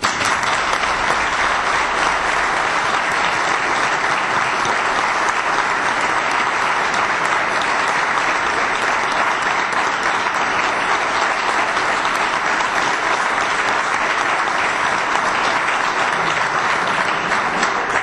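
Sustained audience applause at a club event, honouring a key club figure, a dense, steady wash of many hands clapping at an even loudness for the whole stretch, with no talking over it.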